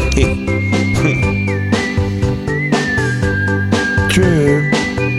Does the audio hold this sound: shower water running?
no